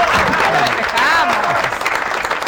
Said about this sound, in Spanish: Felicitaciones por el CONEX. Bueno, un aplauso, gracias. Por favor.